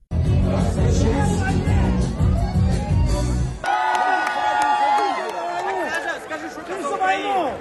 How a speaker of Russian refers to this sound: поет одну из своих песен в толпе танцующих участников вечеринки